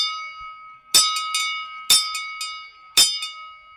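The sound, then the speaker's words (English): A school bell rings for class, swung in uneven clangs (three strong strikes with lighter ones between) while its bright metallic tone hangs on steadily. No one speaks. “All right, folks, ringing the bell for class.”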